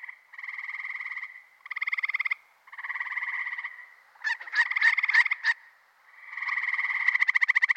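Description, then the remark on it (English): A male frog gives repeated buzzy, pulsed advertisement calls in bursts of about a second each, with a quick series of sharp chirping notes in the middle, loud with no talking. “The males are producing what are called advertisement calls.”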